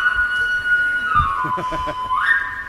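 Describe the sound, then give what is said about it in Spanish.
A characteristic whistle blown in the streets holds a steady, fairly loud pitch, dips lower for a moment, then slides back up, with faint voices murmuring underneath. “En lugar de inspectores de Hacienda, habría regularizadores que irían por las calles con un silbato característico.”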